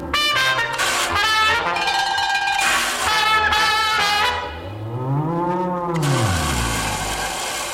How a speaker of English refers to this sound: And there's the bell for round two.